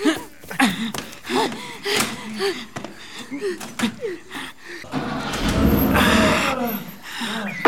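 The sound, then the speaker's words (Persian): Tense voices and breathy sounds give way to a car engine turning over and roaring to life, a loud, steady rumble that fills the last few seconds. “فقط ماشین روشن کن.”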